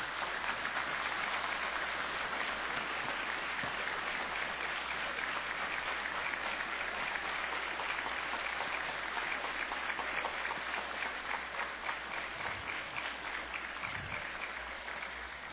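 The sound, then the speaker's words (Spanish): A large audience claps steadily and continuously for a group of award winners, a dense sustained wash of applause that stays loud throughout and eases only slightly near the end. “Con más eco y volumen, Un fuerte aplauso para todos ellos.”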